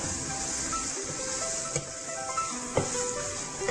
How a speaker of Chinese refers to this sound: 好，这个时候呢，我们可以把砂糖放一点进去。砂糖放的话呢，你更是需要搅拌锅子啊，免得这个砂糖呢烧焦了哈。